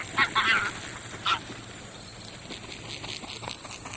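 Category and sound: bird, greylag geese honking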